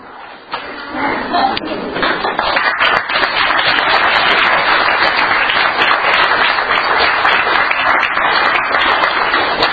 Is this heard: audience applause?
yes